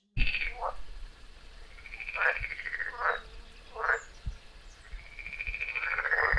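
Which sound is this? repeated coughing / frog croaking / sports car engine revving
frog croaking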